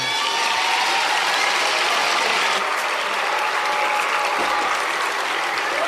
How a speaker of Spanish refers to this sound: Un aplauso para eles.